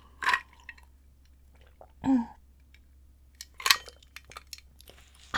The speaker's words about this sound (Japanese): ちょっと氷の音がうるさいかな。大丈夫かな。